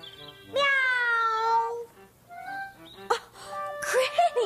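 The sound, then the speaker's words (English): A person imitates a cat, giving one long, drawn-out meow followed by a few shorter rolled, trilling purr-like sounds, all clear. “Are you a cat today? Brrr, meow, meow.”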